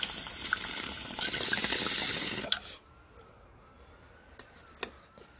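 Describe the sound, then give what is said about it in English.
A strong bong hit: steady, gurgling bong water bubbles rapidly for about two and a half seconds, then cuts off, leaving near silence broken by a few faint clicks. No one speaks. “Strong bong hit.”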